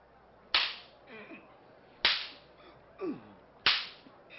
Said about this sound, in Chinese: 我虽然查不出他的过失，仍要下令鞭打他。士兵们，剥下他衣服绑在柱子上，开始用鞭子狠狠地打。